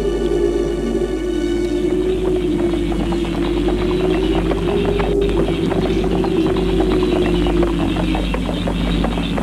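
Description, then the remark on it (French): Horse hooves clatter in a quick, steady rhythm as a rider leaves a castle on horseback and gallops off into the night, set against a constant low droning wind that fills the background throughout. “Prend son cheval”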